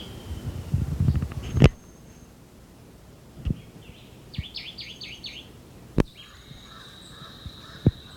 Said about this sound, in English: Jabbering crow in the background.